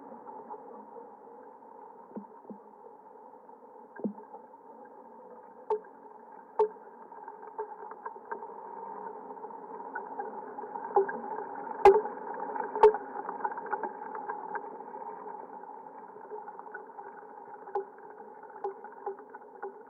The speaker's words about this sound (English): Let's listen to what you talked about, the sequoia trees. Let's listen to that sound. It's just so gorgeous and magical, and oh, I just get excited thinking about it.